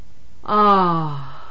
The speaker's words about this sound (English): It is not dragged out as much as I would like, but other than that, it was good and strong. As the book points out, any exercise stops for a yawn, and yawn should always be made with as loud a sound as possible.